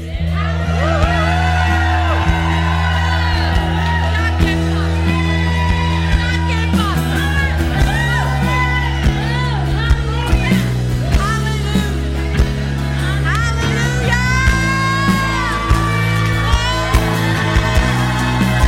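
crowd cheering and whooping

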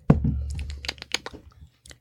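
sipping a beer

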